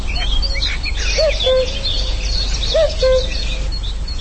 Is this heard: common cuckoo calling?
yes